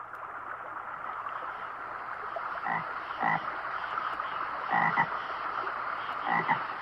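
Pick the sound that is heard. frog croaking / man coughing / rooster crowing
frog croaking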